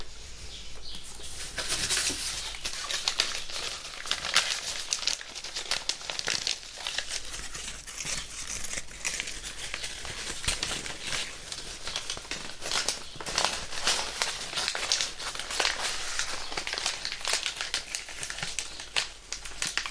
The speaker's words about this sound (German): Und damit ich nicht die ganze Zeit vorn, hinten, oben, unten einfach nur schwatze, nehme ich jetzt einfach ein Stückchen Packpapier und raschel da ein bisschen mit rum. Moment.